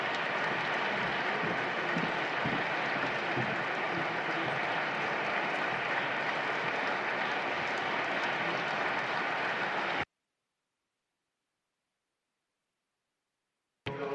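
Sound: audience applause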